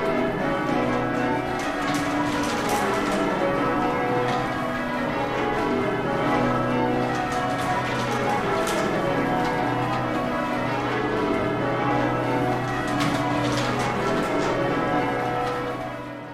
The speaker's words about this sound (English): I'm sitting in the middle of a circle of people, probably about 15 to 20 people, and they're all pulling on the bell ropes.